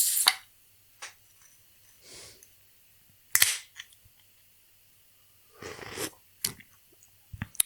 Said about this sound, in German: habe mir das IPA ausgesucht von Sudden Death, was ich im Kühlschrank habe, was die wenigsten Prozente hat mit 7,0. Deshalb, ich mache jetzt mal diese wunderbare Dose auf.